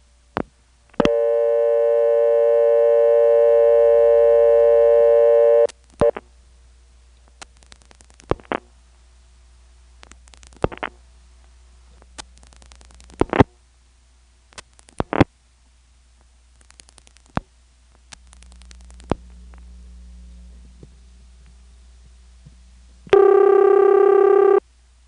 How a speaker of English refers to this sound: From Kenley, notice how I can just pick up the Northern Electric payphone and dial a local ringing number.